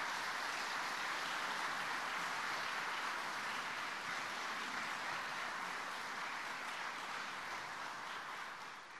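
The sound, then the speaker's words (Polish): A crowd gives a round of collective applause, clapping steadily for several seconds, a dense, even wash of many hands with no voices, easing off slightly toward the end. “I teraz proponuję zbiorcze brawa.”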